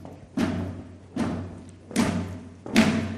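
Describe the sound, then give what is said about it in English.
A standing group marching on the spot stomps their feet in unison to a steady beat, four heavy, slightly ragged thuds about a second apart, with a low hum underneath and no talking. “we can either clap or stomp our feet, but try and do it in the beat”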